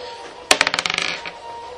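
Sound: dice being rolled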